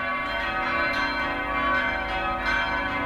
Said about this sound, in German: Und zu diesen beiden erhaltenen kleinen Glocken wurden 1958 2 weitere gegossen. In dieser Form bestand das Geläut von St. Kunibert über 4 Jahrzehnte.